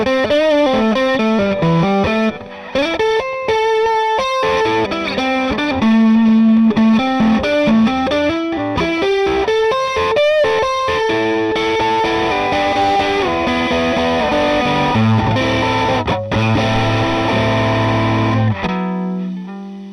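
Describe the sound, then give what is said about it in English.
A Stratocaster electric guitar on its middle pickup, played through a Dogtone Fuzz pedal with bias and tone about halfway and fuzz not quite fully open, plays a busy run of notes and bends with a thick, buzzy distorted tone, ending on a sustained low note that cuts off abruptly. “We'll begin in with the middle pickup position. The fuzz is set with the bias about halfway.”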